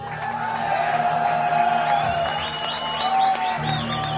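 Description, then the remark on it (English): A crowd cheers and applauds for a guitar steadily for about four seconds, a dense wash of clapping with rising whoops and shouts scattered through it at an even, fairly loud level. “Let's hear it for this guitar.”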